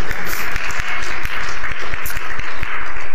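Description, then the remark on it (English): A crowd applauds steadily, many hands clapping in a dense, even wash of sound with distinct claps popping through, loud throughout. “You can clap for that one.”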